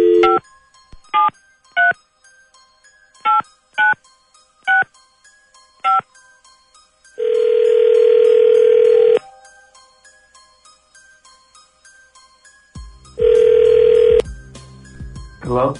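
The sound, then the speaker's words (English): A string of short, evenly spaced touch-tone beeps from a phone dialing a number at random, followed by two long, steady ringback tones separated by a pause of silence. “All right, here we go. Dialing at random.”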